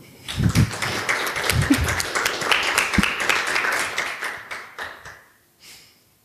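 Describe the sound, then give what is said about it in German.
An audience breaks into applause to welcome an introduced speaker, a dense wash of many hands clapping at once, holding steady for several seconds before thinning out and fading to a few scattered claps. “Ich möchte euch herzlich bitten mit einem Applaus”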